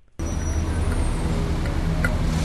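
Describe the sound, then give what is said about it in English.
A heavy truck engine idles steadily on a New York City street, a continuous low rumble with a faint mechanical whine, set against the wash of the city street; no one speaks. “This is the unmistakable New York City sound of truck idling.”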